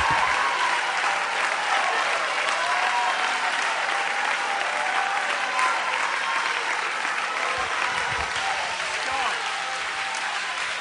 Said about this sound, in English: Would you join the rest of the congregation with a thunderous 30-second CGC Sunday night round of applause.